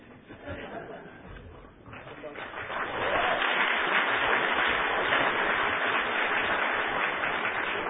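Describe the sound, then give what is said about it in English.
An audience breaks into applause about three seconds in, building to a dense, steady wash of clapping that stays loud to the end, after a quieter opening with faint crowd murmur. “Don't clap until you hear what I have to say.”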